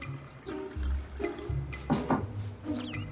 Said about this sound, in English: A heavily hungover Ray comes downstairs. He walks over to the kitchen counter and pours himself some coffee.